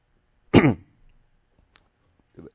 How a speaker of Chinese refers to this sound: 对不起哈、还是有点的咳嗽。